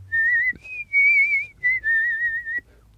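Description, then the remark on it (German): A person whistles a short tune with lips held wide, a few sustained, slightly wavering notes in separate phrases, clear, with no talking. “Ja, vor allem, du machst gar nicht so eine, du pfeifst nochmal ganz anders. Das ist ja fortgeschrittenes Pfeifen.”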